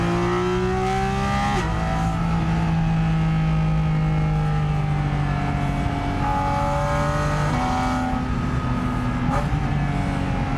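A naturally aspirated sports car engine revs hard and steadily, its droning tone climbing and dropping several times as the pitch shifts between gears, loud throughout with no voices.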